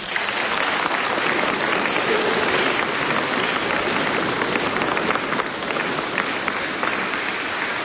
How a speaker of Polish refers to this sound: Pragniemy jeszcze raz bardzo serdecznie podziękować ojcu Tadeuszowi Rydzykowi za ten głos na antenie Radia Maryja i telewizji Trwam. Jeszcze raz wielkie oklaski.